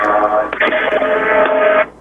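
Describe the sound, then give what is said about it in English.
Tinny, band-limited music plays steadily from a computer speaker in the background, sounding thin, with no one talking, before cutting off abruptly near the end as the computer is turned off. “I'm gonna have to turn off this computer. You'll hear. Yeah, they're getting a slight echo. I'm going to hear … for a few seconds”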